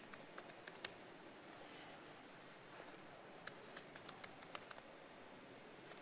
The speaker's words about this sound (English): And while you're typing this,